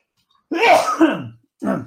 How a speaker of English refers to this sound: I usually sneeze about four times in a row. Once I say, here comes another one.